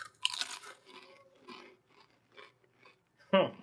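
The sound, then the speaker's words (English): Crunchy chewing of a cucumber-flavoured candy: a loud crunch at the start, a run of softer, irregular chews, then another sharp crunch at the end. “Like a couple of chews in.”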